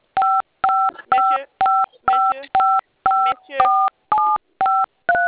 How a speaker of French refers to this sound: Arrêtez de manipuler le téléphone, d'accord? D'appuyer sur les boutons, s'il vous plaît.